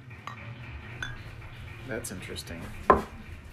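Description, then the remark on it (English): Clinks of glassware, a few light taps followed by a short splashing trickle as a fruity, wine-like drink is poured from a bottle into glasses, and one sharper clink near the end, with faint background murmur. “All right, let's do the little pour here.”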